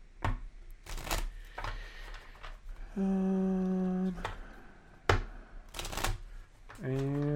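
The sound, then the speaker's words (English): A deck of tarot cards is shuffled for a reading in several crisp, papery riffling bursts, with brief sustained vocal tones sounding between and after the shuffles. “And one more shuffle for Shell.”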